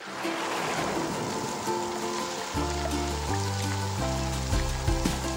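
A steady, loud wash of rushing water and pouring rain from a midsummer downpour fills the scene, soon joined by low, sustained musical tones swelling beneath the torrent.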